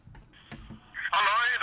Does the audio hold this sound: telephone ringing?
yes